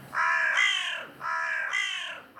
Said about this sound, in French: C'est juste la faune du matin qui s'éveille. Un lapin, des corneilles, elle me raille.